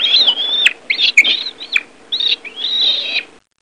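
A monkey chatters in rapid, high-pitched squeaky bursts, five or six shrill calls in quick succession, fairly loud with nothing else in the background.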